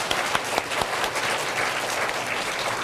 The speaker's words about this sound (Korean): 예, 인사드릴 때 우리 다 같이 박수로 축하하고 축복하겠습니다.